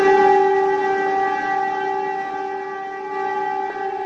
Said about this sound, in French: Ce sont des sirènes déclenchant l'alerte aux avions et appelant la population à aller se réfugier dans les bunkers a retenti à Prague le mercredi 14 février 1945 à midi.